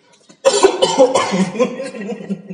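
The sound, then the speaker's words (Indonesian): A loud cough bursts out after a brief quiet moment, followed by a rough, raspy throat-clearing that trails on for a couple of seconds. “Buat teman-teman batuk dulu ya.”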